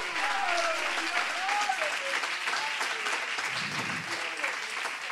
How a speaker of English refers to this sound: Oh, come on, somebody clap your hands to the Lord.